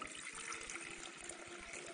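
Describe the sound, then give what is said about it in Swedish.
A steady stream of water pours into a container for about two seconds, a continuous splashing rush with a slightly bubbling, gurgling texture and no voices. “Och så hällde de upp det här vattnet.”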